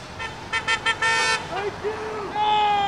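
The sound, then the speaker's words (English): Several short car horn honks from passing cars sound in quick succession, followed by a longer sustained blast and another tone near the end, over steady street traffic noise with faint voices. The cars honk at about half a dozen sign-holding anti-police brutality demonstrators in Park Square, downtown Pittsfield, Massachusetts, on a Wednesday afternoon. “About half a dozen sign-holding demonstrators attracted honks from passing cars in Park Square Wednesday afternoon,”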